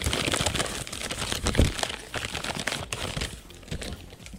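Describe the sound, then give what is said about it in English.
A hand rummages through slips of scratch paper in a box, producing continuous rustling, crinkling and scratching for several seconds with no one speaking. “Basically, anytime we're like, ooh, that might be a good conversation starter, we write it on a piece of scratch paper, throw it in the box, and when we reach into the box, we let destiny take the wheel.”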